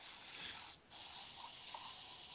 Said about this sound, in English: I know, someone's taking a shower. I'm filling up a water bottle.